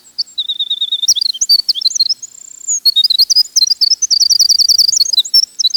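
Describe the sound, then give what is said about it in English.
A winter wren sings a long, rapid, tumbling song of high, tinkling notes and buzzy trills, pouring out continuously for several seconds, clear with no voices. “Several people agreed that the prettiest bird song belongs to the winter wren.”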